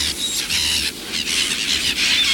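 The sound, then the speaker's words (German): A dense, restless chorus of many birds squawking and screeching, harsh overlapping calls surging in quick waves throughout, loud with no talking. “Du, die Vögel werden langsam türkig.”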